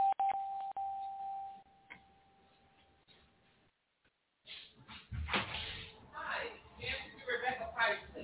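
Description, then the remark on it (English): A doorbell at a front door sounds once at the start: a steady mid-pitched chime tone that rings and slowly fades over a few seconds, followed by a brief silence and then a person talking. “somebody at my door.”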